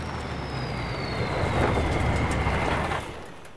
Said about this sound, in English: The army lorry drives up the rough track to the cluster of tents and stops.